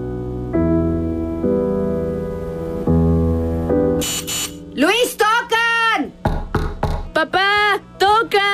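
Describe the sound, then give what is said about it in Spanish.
A doorbell rings with a few sustained electronic tones that step between pitches, then a short harsh buzz, after which voices speak in quick, animated exchanges. “¡Creo que tocan!”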